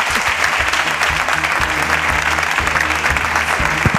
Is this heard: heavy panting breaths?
no